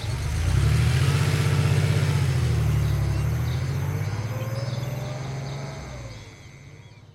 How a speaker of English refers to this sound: Avoiding the SEMA surveillance systems, Makia left the Koinata estate and took her car to drive into town.